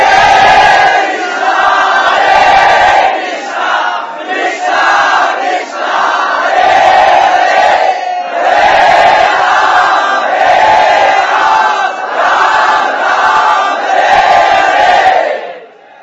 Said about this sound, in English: So everyone, with tears of devotion in their eyes, from their heart of hearts, as loud as they could, they raised their arms to chant the holy name.